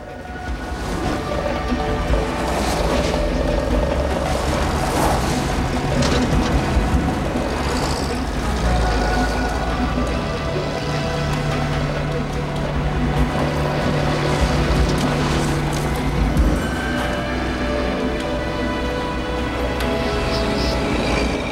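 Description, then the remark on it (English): Several car engines rumble and rev continuously, a dense, steady wash of motor noise as the assembled cars drive off, circling and turning back on dusty ground, with no talking. “The assembled cars begin leaving, circling and turning back, narrowly missing the body of Strauss's man lying dead in the dust.”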